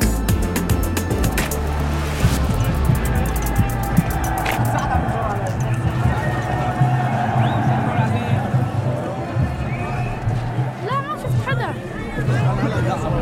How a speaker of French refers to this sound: On est donc sur l'immense place du centre-ville d'Idlib. Il y a énormément de monde, une foule immense. Il y a des gens partout, vraiment. Sur les toits, tout autour, si je lève les yeux, je les vois, ils sont montés sur le toit des immeubles.